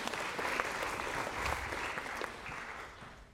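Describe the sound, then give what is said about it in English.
A room full of people claps steadily for a few seconds for two players of a game, a dense, even patter of many hands with no voices standing out. “A round of applause for our two feistier players.”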